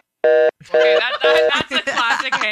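A telephone call disconnecting, followed by a steady electronic tone in short repeated bursts, loud and buzzy, with garbled chatter layered over the later tones.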